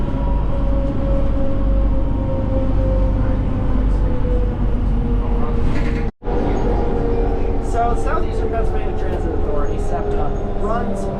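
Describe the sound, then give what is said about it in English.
Riding inside an electric trolley bus running from wires above the street in an East Coast US city: a steady low rumble with a humming electric motor whine, muffled voices chattering, and a brief dropout partway through. “The only East Coast city that has electric buses that run from wires above the street. And that's what the three of us are on right now.”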